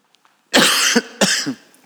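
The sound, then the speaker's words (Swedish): Two harsh, loud coughs, each a noisy burst lasting about half a second, separated by a short pause, with near silence before them. “Nu får vi stänga av ljudet lite så jag får hosta.”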